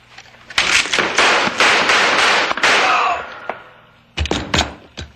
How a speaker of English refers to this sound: I just shot a man.